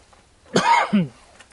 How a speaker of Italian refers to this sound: Mi fermo perché mi viene la tosse, adesso bevo qualcosa, poi vado avanti.